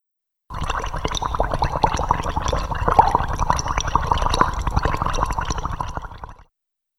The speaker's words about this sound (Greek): Βράζω κάτι.